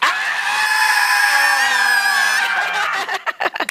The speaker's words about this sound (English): I want you to put your arms in the air, and then I want you to scream as loud as possible on three. One, two, three.